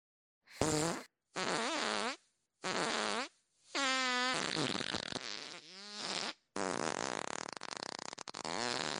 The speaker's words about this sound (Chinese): 我要放屁了， 快快！